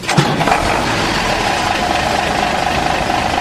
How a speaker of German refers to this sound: Das Fahrzeug fährt rückwärts, das Seil steht unter leichter Spannung.